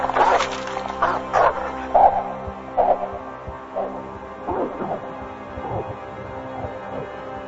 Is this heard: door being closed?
no